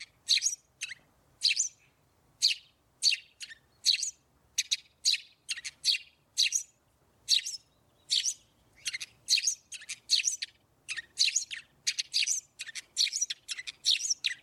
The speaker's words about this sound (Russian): Ну, а полевой воробей, он как чирикает? У него более тонкий голос, более звучный и более многогранный. И вот сейчас для сравнения тоже предлагаю послушать голос полевого воробья.